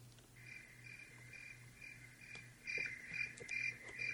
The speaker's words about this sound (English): That's a quality cricket sound. Yeah, I like that. We'll use that.